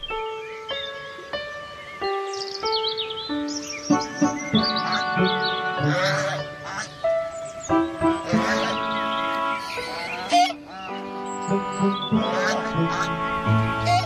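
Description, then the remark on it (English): A flock of geese on a lawn honking continuously, many nasal calls overlapping in a busy chorus with no pauses and no talking. “What are the geese doing on the lawn?”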